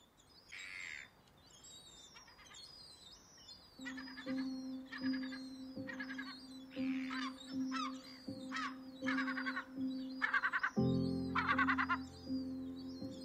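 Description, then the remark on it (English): Gulls call again and again in harsh, overlapping cries at the harbour in Dunleary, over a steady low engine drone that swells near the end. “Gulls have the best of both worlds here.”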